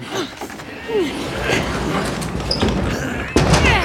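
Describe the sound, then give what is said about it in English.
A heavy door is shoved open with scraping, rumbling effort and a few dull thumps, ending in a louder knock near the end, while muffled voices murmur underneath. “help me with the door.”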